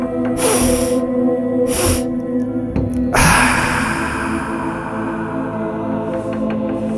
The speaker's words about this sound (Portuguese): A gente vai começar com algumas sessões de suspiro fisiológico. Inspira uma longa, inspira uma curta e solta. Assim.